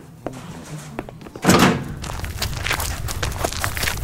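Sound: doors closing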